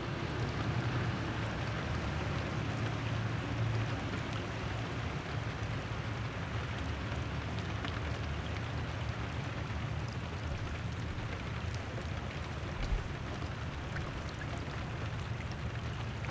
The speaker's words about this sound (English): like all the fishermen got off the river. Because it's raining.